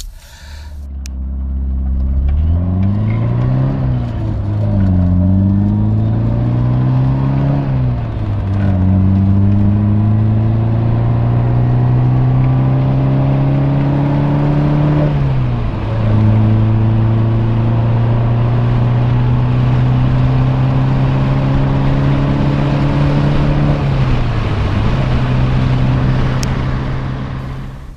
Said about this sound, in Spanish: pues la verdad es que molaba ver zumbar ahí algunos Ibiza de estos preparados, otros en plan diésel ahí echando humo.